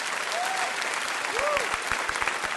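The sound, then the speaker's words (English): A debate audience at an Intelligence Squared US recording claps steadily on request, a dense wash of many hands applauding together, with a couple of faint tonal chirps or whistles rising briefly above the clapping. “So if you could give a round of applause, that would be great.”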